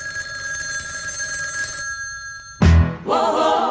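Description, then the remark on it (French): A telephone rings loudly for a wake-up call with a steady, bright metallic trill for a couple of seconds, then cuts off with a sudden clunk followed by a burst of busy noise. “C'est le réveil par téléphone.”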